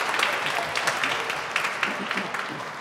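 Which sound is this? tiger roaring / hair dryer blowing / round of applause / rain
round of applause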